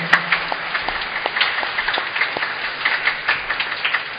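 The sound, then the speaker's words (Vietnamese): A church audience at Mass applauds to congratulate the altar servers, many hands clapping in a dense, continuous patter of sharp claps that holds at an even level throughout, with no talking. “Lần nữa xin cộng đoàn ông bà anh chị em chúng ta cảm ơn và chúc mừng ban lễ sinh một tràng vỗ tay nữa.”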